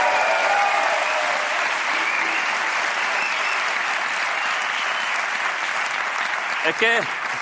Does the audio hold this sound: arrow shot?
no